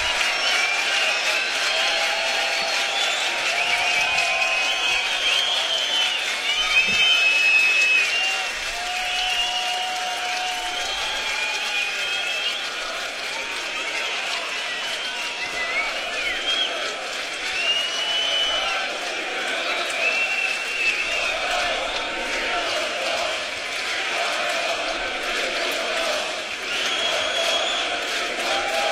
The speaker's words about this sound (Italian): Credo che stiano urlando We Want More.